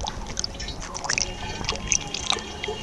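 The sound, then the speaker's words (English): Water trickles and splashes, with scattered bright drips and gurgles over a steady wash of flowing stream noise, as several gallons are drawn from a stream in Taizhou, whose banks are littered with electrical cable, to test it for harmful chemicals. “On this day, they draw several gallons from a stream.”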